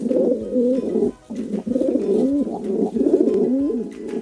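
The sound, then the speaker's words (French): Pigeons coo in a steady, low, throaty warble, several overlapping rounds of rolling calls repeating for a few seconds, with no voices present. “On les reconnaît à leur plumage gris et aussi à leur manière de roucouler.”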